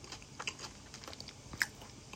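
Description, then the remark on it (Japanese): Quiet crunching and chewing of a crisp cucumber, a few sharp bites scattered over about two seconds, with one louder snap near the end and no talking. “のバリバリキュウリ来て”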